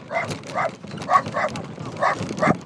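A dog riding along as a passenger barks in short pairs, about six sharp yaps in all, over the steady low rumble of a moving horse-drawn carriage on the coastal road on Inishmore, travelling from Dun Angus Fort toward Kilronan.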